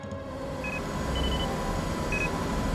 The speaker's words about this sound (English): Frank just wanted to sleep, but that beeping was driving him crazy.